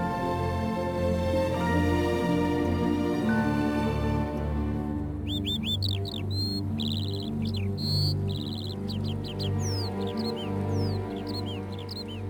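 Birds call outdoors, a run of quick high chirps and rising whistles starting partway through and repeating over a steady, dense low background hum.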